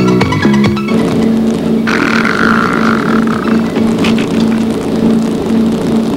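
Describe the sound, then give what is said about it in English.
The engine of a 35,000-pound fiberglass motorboat roars loudly and steadily as the boat speeds along at 40 miles an hour toward a wedding on a lawn by the shore. Its droning hum is joined by a rising whine and rushing wash. “Oddly enough, the boat has turned around and is heading for that wedding on the lawn.”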